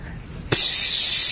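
After a short quiet start, a sharp click gives way to a steady, loud hiss of an aerosol spray paint can, continuing unbroken to the end with no one talking.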